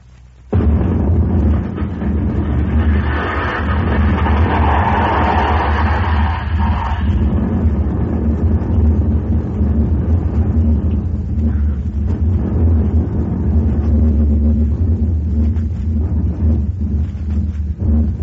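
A rocket launch bound for the moon, lifting off from a mountain, erupts into a loud, sustained explosion, a deep roaring rumble that fills the whole clip with crackling, hissing bursts riding over the heavy low thunder.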